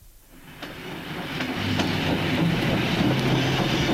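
A train rumbles along the rails, the sound swelling from quiet to a steady, dense roar with faint periodic clicks and a low hum, no voices present.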